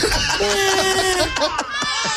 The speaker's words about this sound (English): Are there children crying?